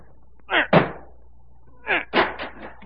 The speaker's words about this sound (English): Break down the door. Here, this heavy chair will do it.